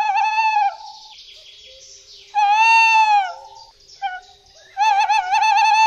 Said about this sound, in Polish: albo jakieś zadrzewienie wokół kościoła, czy innego miejsca i usłyszelibyśmy sowę, no to właśnie, mówimy o tym, żeby się nie zdziwić, bo rzeczywiście jeszcze o tej porze przy Wigilii możemy usłyszeć na przykład głos terytorialny puszczyka.